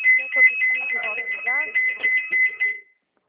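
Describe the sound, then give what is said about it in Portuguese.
A telephone rings with a warbling electronic tone that rapidly alternates between two high pitches, steady and fairly loud for about three seconds while people talk over it, then cuts off. “É o telefone.”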